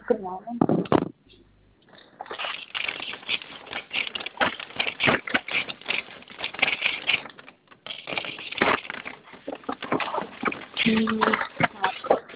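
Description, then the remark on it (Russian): A plastic food delivery bag holding an order of rolls being opened, with sharp, continuous crinkling and rustling crackles that run almost without pause, briefly quieting before resuming loudly. “Сейчас, 2 секундочки, открою Да, пакет.”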